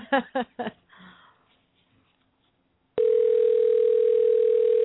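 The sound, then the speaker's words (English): Three quick, bright beeps as phone keys are pressed to dial a cell phone, a brief hush, then a loud, steady telephone tone that hums unbroken to the end. No one speaks. “I hope I dialed that right.”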